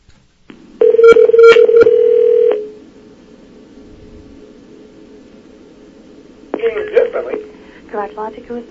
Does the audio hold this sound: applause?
no